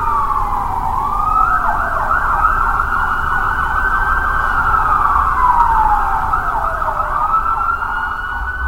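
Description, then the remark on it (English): An ambulance siren wails loudly and continuously, its pitch rising and falling in long smooth sweeps over a low rumble of traffic, with no voices. “Call the ambulance at once.”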